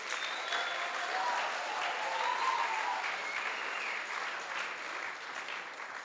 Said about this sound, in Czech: Tak na místě pátém se umístili Šošoni, tak potlesk pro ně.